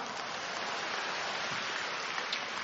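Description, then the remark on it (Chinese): A crowd claps steadily, a dense, even wash of many hands that holds at the same moderate loudness throughout, with no voices on top. “啊，对， 鼓掌。”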